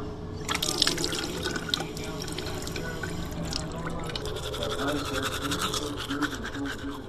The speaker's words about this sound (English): I always turn off the water while brushing my teeth.